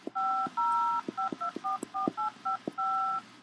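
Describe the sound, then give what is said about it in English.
A telephone keypad being dialed: a quick run of about a dozen touch-tone beeps, some short and some held longer, each with a faint click, clear with no voices. “It's ringing.”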